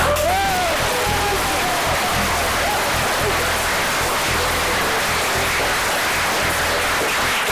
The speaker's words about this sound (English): Lord, that applause was so loud, it was almost sarcastic.